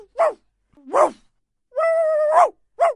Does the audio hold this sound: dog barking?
yes